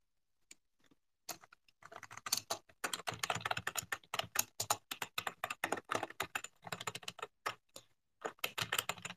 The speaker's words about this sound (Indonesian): Aku nggak kentut. Mungkin ini apa namanya vibration dari aku ngetik.